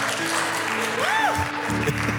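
An audience in a church claps steadily in a dense, continuous patter, with a rising and falling whoop or whistle cutting through the applause midway.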